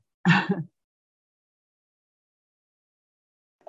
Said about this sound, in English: I am still coughing sometimes, but my big announcement is I'm feeling so much better week by week.